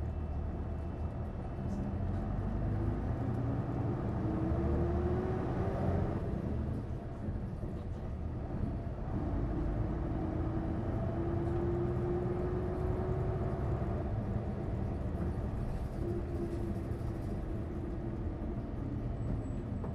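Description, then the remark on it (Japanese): Steady, loud engine drone and road rumble inside a moving route bus bound for the Chuo Hospital terminus, with the engine note climbing repeatedly as it accelerates through gears. No voices are heard. “降りの方はバスが止まってからお席をお尋ね願います。”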